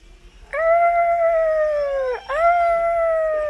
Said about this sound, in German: Oh, da hinten sind ja Wale. Vielleicht erzählen sie euch ja etwas über sich.